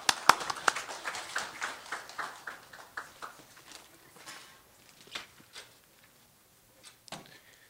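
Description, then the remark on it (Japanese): A small church seminar audience applauds to welcome a visiting pastor from Tokyo to the lectern: brisk, dense clapping at the start that thins out after a few seconds into scattered, fading claps, with no talking. “主に、期待をして拍手を持って講談にお迎えしたいと思います。”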